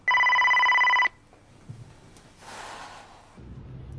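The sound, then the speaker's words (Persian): A telephone rings loudly with a steady electronic trill for about a second at the start and goes unanswered, then stops, followed by soft breathing and faint rustling noises. “در ضمن خیلی بده که اون تلفنو جواب نمیدی.”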